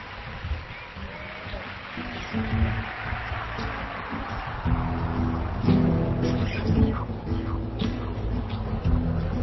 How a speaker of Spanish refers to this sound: Mira, ¿ves? Ese es el aplauso que abre el... Ahí está. ¿Ves? Y se empieza a procesar el ruido como si fuera un mar, ¿no?